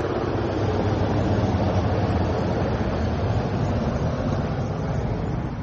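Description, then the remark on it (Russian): A loud, steady roar of military airplane and helicopter engines fills the whole stretch, a dense continuous rumble as they fly over houses and an empty Red Square in Moscow for the Victory Day flyover on 9 May 2020, with no talking. “А был лишь полет над домами и пустой площади самолетов и вертолетов.”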